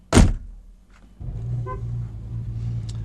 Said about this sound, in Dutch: In de richting van de reportagewagen. U zult aanstonds zult u de motor horen aanslaan. En dat betekent, luisterende vrienden over zee, dat wij met elkaar op weg gaan naar onze nieuwe studio.